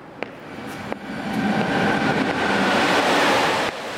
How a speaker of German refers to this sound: Nur dann und wann wird man durch einen lärmigen Güterzug erschreckt.